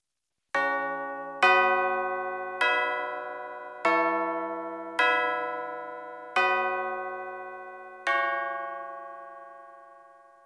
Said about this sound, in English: Bells produce a wild mixture of overtones, and the fundamental may not even be recognized as such.